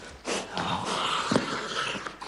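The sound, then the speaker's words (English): An attack dog snorts and wheezes hard through its nose while clamped onto the arm of a man in thickly padded clothing inside a building in Oklahoma, a continuous run of raspy, straining breaths with a few sharper bursts and no talking. “The dog keeps its grip on the man.”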